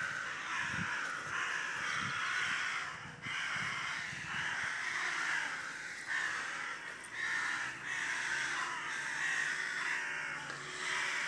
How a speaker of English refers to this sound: You know, that's a big family of crows. They've all shut up. I'm going to try and get into the middle of them. I wonder what they're saying.